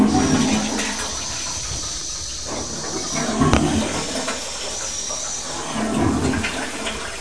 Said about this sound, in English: Flush it. Are you going to flush it? I close it. Come on, quick.